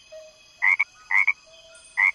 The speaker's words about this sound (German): So klingt ein einzelner Frosch.